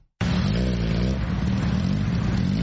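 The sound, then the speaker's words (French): A motorcycle engine starts up abruptly and revs loudly and steadily, a continuous throaty drone that holds for a couple of seconds with no voices, a motorcycle in the crowded city streets of Nairobi. “Il est pratiquement impossible de repérer une femme au guidon de Buda Buda ou autre moto qui sillonne les rues encombrées de Nairobi.”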